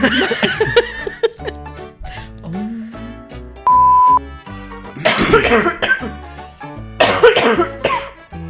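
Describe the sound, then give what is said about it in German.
A loud coughing fit: harsh hacking coughs come in several clustered bursts with short pauses between, and a brief steady beep tone sounds in the middle. “Auf zu husten.”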